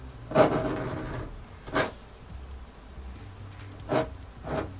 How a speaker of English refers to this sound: But it was locked, just as it had been before, and again, the scratching continued.